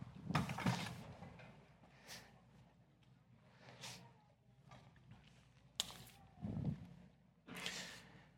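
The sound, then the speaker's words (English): Scraping and knocking of chairs being dragged and set down at a church gathering, a handful of irregular bursts with quieter shuffling between them. “we're going to just grab a couple of chairs here.”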